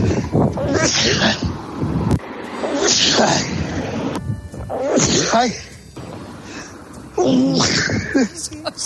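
Four loud sneezes from one man, recorded on a bus, play one right after another, each a drawn-out, voiced burst, with abrupt cuts between them and no pause in the sequence.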